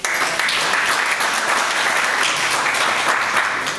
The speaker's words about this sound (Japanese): 拍手いただきました。